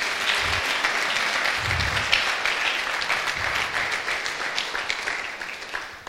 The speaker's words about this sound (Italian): Alleluia, vogliamo fare un applauso allo Spirito Santo.